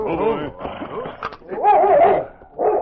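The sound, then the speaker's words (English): A husky, sniffing at the door of a shack, barks and whimpers, giving a few short yelping barks followed by a longer, rising and falling whine and one more brief whimper at the end. “The intelligent husky had gone sniffing to the door of the shack.”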